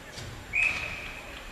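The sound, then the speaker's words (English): A single short, shrill referee's whistle blast stops play in an Amherst vs Middlebury ice hockey game after the goaltender holds on to a wrist shot, with 5:53 left in the tied third period; it starts loud and trails off over the low murmur of a crowd. “We'll get a whistle.”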